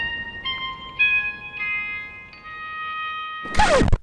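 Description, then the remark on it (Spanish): A short electronic message notification chime on a mobile phone plays a rising sequence of four clear, ringing tones that sustain and overlap, ending with a brief, bright burst of sound. No one speaks. “¿Me estás diciendo que si hace miles de millones de años acontece alguna brutal explosión en algún recóndito lugar del universo, miles de millones de años después, a ti te llega un mensaje al móvil?”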